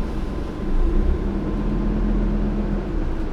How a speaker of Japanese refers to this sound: 27号系統愛川駅前行きまもなく発車します。 まもなく発車します。 27号系統愛川駅前行き発車します。扉閉まります。 お待たせしました。発車します。